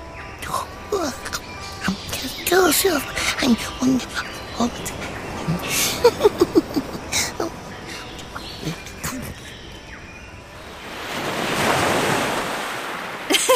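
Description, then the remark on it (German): Ocean waves rush in a steady, hissing wash, with a larger wave surging up loudly toward the end. Faint, indistinct voices and chirpy sounds drift in during the first half. “Er hört im Hintergrund das Meer rauschen und träumt von Nusscocktails und Blumenketten.”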